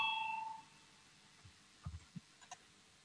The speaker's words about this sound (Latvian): Lūdzu, zvana, balsosim par 195. deputātu Naldiņu priekšlikumu. Lūdzu, balsosim.